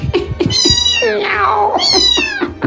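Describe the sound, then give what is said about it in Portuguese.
A cat meows loudly, a few drawn-out, wavering cries following one another with short catches in between, with no talking. “E nós estamos voltando, Fortaleza, o leão feito um gatinho.”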